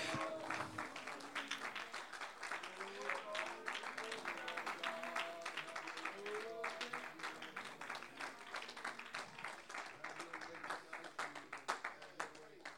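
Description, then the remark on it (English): An audience claps their hands in praise of God in a steady, dense patter that continues throughout, with raised voices calling out over the clapping. “Oh, somebody clap your hands and praise Him with me right now.”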